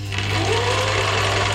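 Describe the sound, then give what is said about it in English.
A sewing machine runs steadily, a continuous loud mechanical whir with a low humming drone underneath, with no pauses and no voices. “It's a sewing machine.”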